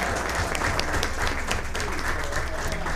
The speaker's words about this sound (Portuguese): Apenas não está presente, mas vamos aplaudi-lo.